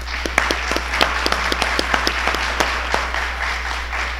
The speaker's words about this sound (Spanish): Y en primer lugar está con nosotros el señor Lin Ji, jefe de Cancillería de la Embajada China en México, quien viene en representación del señor embajador Qiu Xiaoqing. Démosle un fuerte aplauso, por favor.